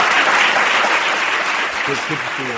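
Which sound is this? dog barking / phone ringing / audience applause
audience applause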